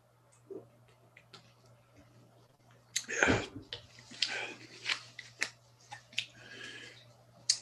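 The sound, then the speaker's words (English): Someone takes a sip of grapefruit water: a quick slurp-like burst of noise amid scattered small clicks and taps from handling a cup, over a low steady hum, with no talking. “Let me just get a sip of my grapefruit here. Grapefruit water.”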